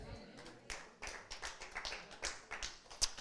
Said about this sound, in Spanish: Ese aplauso está muy chafa. Un aplauso fuerte, amén.